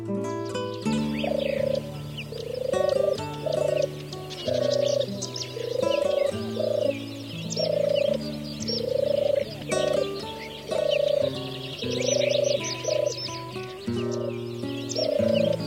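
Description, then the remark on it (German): A European turtle dove coos in soft, low purring phrases, repeated steadily, over a continuous bed of other bird chirps and background sound. “Das war die Turteltaube.”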